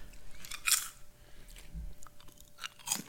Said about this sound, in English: That's a good crunch. Oh, boy.